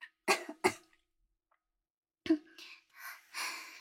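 A fairly loud throat clearing: two quick harsh bursts, a pause of silence, then a longer rougher series of raspy clears and breathy exhales.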